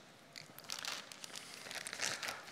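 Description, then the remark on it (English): Crinkling of a paper bag of flour: a steady run of dry, crisp rustles and crackles, bright and papery, continuing throughout without any talking. “This is a bag of flour, not other white powder.”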